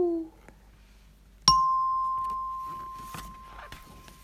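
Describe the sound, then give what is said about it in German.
Many bells ring all at once on Easter morning, a loud, clear ringing tone hanging in the air and slowly fading, with faint clinks and knocks around it. “Am Ostermorgen läuteten plötzlich alle Glocken gleichzeitig.”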